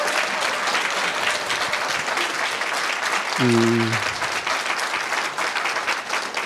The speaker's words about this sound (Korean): 네, 오늘 우리 이 아름다운 음악을 우리에게 들려주신 우리 아도나이 성가대에게 우리 감사의 박수를 드릴까요? 감사합니다.